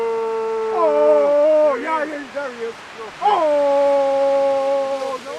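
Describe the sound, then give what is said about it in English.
Unangan hunters who have spotted a sea lion call out to it with long, drawn-out howling calls that waver and slide in pitch, a few sustained cries in a row, loud and clear over a faint outdoor background. “The hunters spot a sea lion and they start to call to it.”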